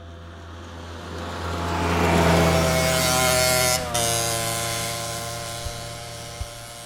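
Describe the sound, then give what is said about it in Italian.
Two modified Booster scooters roar through a damp pine forest at the edge of a village, with a loud, buzzing engine drone that swells over the first seconds, drops out briefly, then holds steady, with a couple of short thumps near the end. “Il fracasso di 2 booster modificati rompe il silenzio umido e spettrale della pineta al confine col paese di sinistra.”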